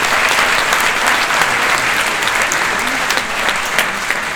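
An audience claps steadily for the young participants of a science competition, a dense wash of many hands with scattered sharper claps standing out, loud and sustained for the whole stretch without anyone speaking.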